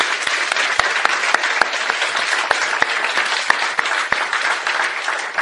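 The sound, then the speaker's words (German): Steady, dense applause from a church audience clapping for Jesus during a service, many hands clapping at once with a few sharper individual claps standing out, sustained at an even loudness throughout without speech. “Und wir sollten mal für Jesus einen Applaus geben.”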